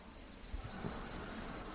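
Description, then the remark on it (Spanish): Faint, far-off summer birds in the background chirping in a thin, steady, cicada-like buzz on a hot, almost windless summer day, set against a soft wash of outdoor background hiss with a couple of low thumps. “Esos pajaritos que se escuchan muy al fondo son el típico pájaro de verano, ese que es como una chicharrita.”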